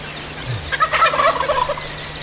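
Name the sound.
wild turkey gobbling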